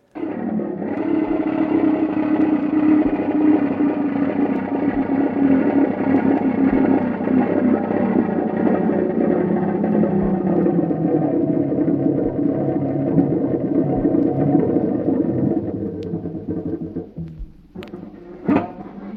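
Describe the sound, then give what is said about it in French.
Futurist noise music, Luigi Russolo's 1913 piece "Risveglio di una città" (The Awakening of a City): a dense, steady mass of droning, groaning and whirring machine-like tones, loud and unbroken for about sixteen seconds, then cutting off into a couple of sharp clicks. “On va écouter de la musique de l'auteur du Manifeste du bruitisme, Luigi Carlo Filippo Russolo.”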